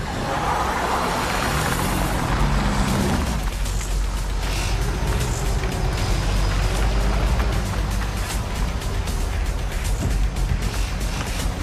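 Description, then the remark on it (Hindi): A car engine roars steadily at speed, loud, with a constant rushing road and wind noise and occasional rattles, no voices over it. “बस कोई बात ना करो, चुपचाप तुम गाड़ी चलाओ।”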